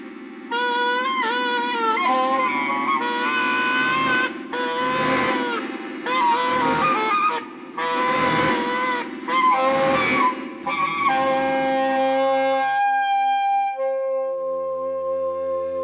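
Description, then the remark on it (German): Loud, harsh donkey brays in a stable repeat in wavering bursts over a steady low droning tone, then give way to a few calm sustained notes at the end. “Mit so einem schreienden Esel in einem Stall, das hält ja der stärkste Gaul nicht aus.”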